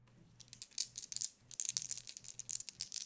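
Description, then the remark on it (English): Dice are rolled on a table during a board game. A quick flurry of sharp, bright clicks and clatters rattles and tumbles in two bursts, with a low hum underneath and no voices. “Yeah, that makes me feel so much better, Bruce said gloomily, and then rolled the dice.”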